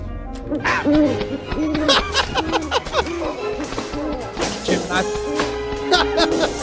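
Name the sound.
owls hooting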